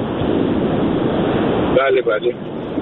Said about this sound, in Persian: فکر میکنم شما یک جایی هم هستید کنار اقیانوسی، جایی باد شدیدی میاد. من الان لس آنجلس هم. بله بله. ولی دبی که زندگی میکنم اونجا هم خلیج فارس دیگه. بله الان هم باد خیلی شدیدی داره میاد.